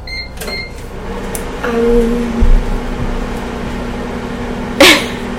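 A couple of quick electronic keypad beeps, then a microwave oven starts up with a click and settles into a steady, low hum while defrosting food without a plate. A sharp, noisy burst cuts in near the end.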